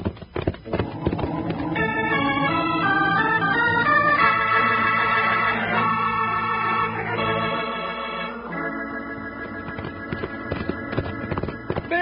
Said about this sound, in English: stretch out that horse of yours. We got some riding to do.